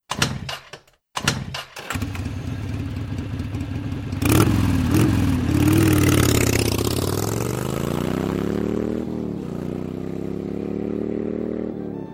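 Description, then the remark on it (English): A motorcycle engine cranks with a few sputtering bursts, catches, then revs loudly with rising and falling pitch before settling into a steady roar as it pulls away. “this motorcycle's awesome.”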